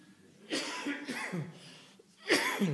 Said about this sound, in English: The cough is easing, thankfully.